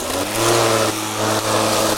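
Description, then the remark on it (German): A lawn mower engine runs steadily while a lawn is being mowed, a constant low droning hum with a slight rise and fall in intensity over two seconds, loud and alone without voices. “Und wir sind gerade beim Rasenmähen, denn so das ist das Thema unserer heutigen Sendung.”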